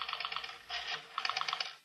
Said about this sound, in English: And then Ralph dials a number on the phone.